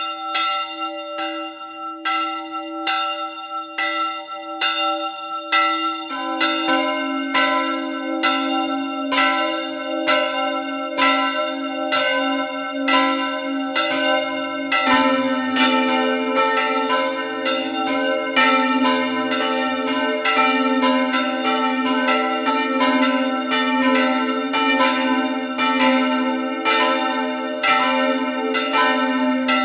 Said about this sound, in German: Es ist 12 Uhr. Sie hören die Glocken der Pfarrkirche Maria Heimsuchung in Kogelhof in der Oststeiermark.